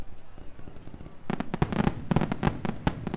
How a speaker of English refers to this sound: Oh my god, I've set off so many fireworks in my life. Yeah, the big kinds.